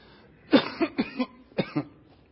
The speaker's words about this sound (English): Sorry. There's got to be something about coughing too. Right?